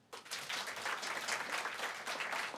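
Audience members who have sex with men break into applause in answer to a question, many hands clapping in a dense, steady wash that starts abruptly and holds at full strength for a couple of seconds.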